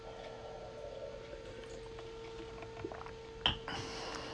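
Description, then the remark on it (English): Water trickles quietly into a glass against a steady electrical hum, followed by a short, sharp knock near the end as the glass is set down; a speaker pouring himself some water to drink. “I'm going to grab some water.”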